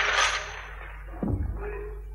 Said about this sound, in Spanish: Un hombre saca unas monedas de su bolsa y las tira a su lado. Toma, para ti.